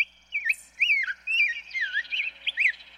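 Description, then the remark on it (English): A grosbeak sings a rich, warbling song of rising and falling whistled phrases, continuous for about three seconds, clear with no other sounds around it. “The rose-breasted grosbeak and evening grosbeak take their names from their big, thick, seed-crunching beaks.”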